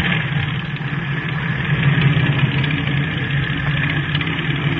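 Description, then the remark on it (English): A steady, droning airplane engine runs without a break, its low, throbbing hum and rough mid-range rumble holding an even loudness throughout, with no voices. “Is that our plane?”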